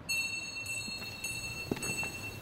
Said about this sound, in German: In der Kirche ist es dagegen fast still. Man hört die eigenen Schritte, hört sich auch wieder und das Glöckchen, das im Mittelschiff der Kirche erklingt.